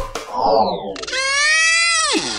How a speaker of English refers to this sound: Maybe you've heard that sound. It's an orca, a killer whale.